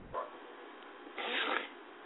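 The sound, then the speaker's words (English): A dog outside barks twice, a short muffled yelp followed about a second later by a longer, fuller bark, both faint and heard without any talking. “Shut up, dog.”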